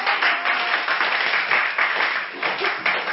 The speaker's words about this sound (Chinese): 然后给大家先给他们掌声鼓励一下。